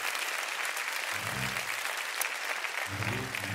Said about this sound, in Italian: Fratelli, facciamo un applauso al povero Lollobrigida!